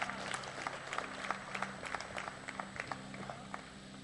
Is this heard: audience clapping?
yes